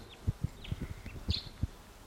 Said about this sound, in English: Wild bird. Must be perched somewhere about 150 or 200 yards away. Stop. It's a bird.